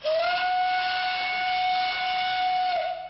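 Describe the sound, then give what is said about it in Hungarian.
The whistle of a steam locomotive pulling a nostalgia train on the Budapest children's railway, between Hűvösvölgy and Széchenyi-hegy, blows one long, steady, shrill note with a breathy hiss around it, rising at the start and holding loud for about three seconds. “Ment a gőzös és a többi nosztalgia vonat is.”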